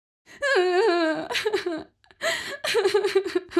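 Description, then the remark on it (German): A woman cries in a train compartment: a long wavering wail breaks into gasping sobs, then after a brief pause another run of shaky, uneven sobbing follows. No one speaks. “Die Frau weint noch immer. Sie scheint untröstlich zu sein.”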